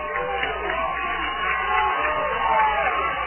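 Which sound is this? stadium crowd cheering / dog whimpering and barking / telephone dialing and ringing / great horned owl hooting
stadium crowd cheering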